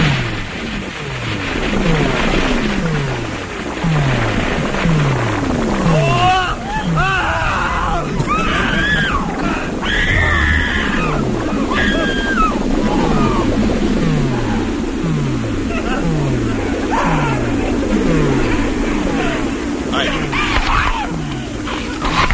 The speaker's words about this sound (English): So now you can hear the bed actually eating. Oh, it's chewing them. It's chewing them. The bed, I don't know how the bed has a mouth, it has lips, it has teeth, you can actually hear it eating.